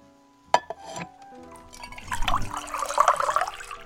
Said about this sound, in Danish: Inden vi begynder den her historie, skal du lige forestille dig at fylde et glas med vand. Et helt almindeligt glas postevand.